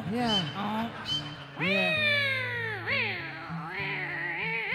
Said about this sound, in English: Jackass stepped on the cat, I guess.